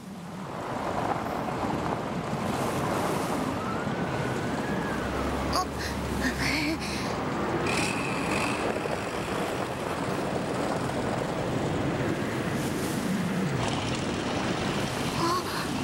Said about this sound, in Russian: Черт, надо срочно где-нибудь укрыться от холода и ветра.